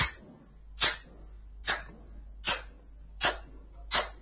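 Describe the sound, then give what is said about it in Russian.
Five sharp hand claps at a slow, steady pace, each a crisp, bright smack with a quick decay, separated by quiet pauses over a low background hum. No one speaks. “Хлопки.”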